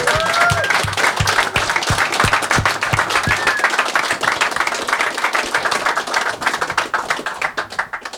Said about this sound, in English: I don't want to get into all of it, but can we all just give a round of applause to Ian Murdoch for his services to Linux?